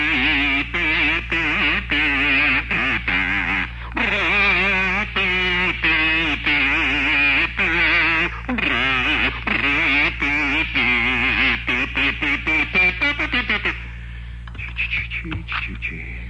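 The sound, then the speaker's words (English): A bazoo honks out a wobbly, buzzing tune of short nasal phrases with bending pitch, loud and continuous for about fourteen seconds before trailing off into a few faint notes. “My mother always used to say, when in doubt, play your bazoo.”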